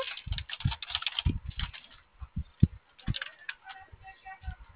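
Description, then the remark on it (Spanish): A run of short button presses on a keypad, entering the code 70-70, irregular clicks and soft thumps tapping out the code, some quick and clustered, others spaced apart, with no talking. “Ahí ves, está en el teclado. Puedes ingresar 70-70.”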